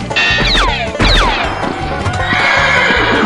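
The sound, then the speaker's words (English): Two loud horse whinnies in quick succession, each a falling, quavering neigh, over a steady backdrop of hooves clip-clopping and general commotion. “Boss, we got all the horses rounded up.”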